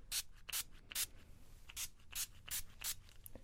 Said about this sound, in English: We do carry the holy grail of spray bottles. This is the Clean Screen Sprayer. I'll give you a little tester.